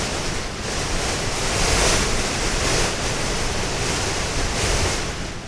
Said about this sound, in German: Der Sturm dagegen kann eine Besteigung des tibetischen Gipfels zur Qual machen. 4 Wochen lang ist der Wind unser ständiger Begleiter und wird häufig auch zum Feind.